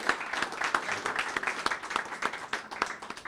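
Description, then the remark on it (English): A crowd applauds steadily, many hands clapping at once in a dense, continuous patter at moderate volume with no one speaking, a round of applause for the candidates in an April 27th firehouse primary. “Let's please give a round of applause to our candidates.”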